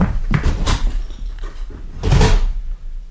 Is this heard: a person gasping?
no